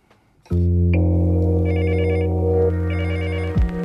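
A telephone rings loudly and steadily for about three seconds, a sustained electronic tone with rapid warbling pulses layered on top, then cuts off abruptly. No voices are heard.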